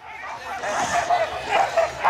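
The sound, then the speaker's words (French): A pack of sled dogs barks and yips excitedly in overlapping bursts during a sled dog race in Savoie, France, with a rough, continuous commotion underneath and no clear speech. “Allez ! Allez les chiens ! Crie le jeune garçon.”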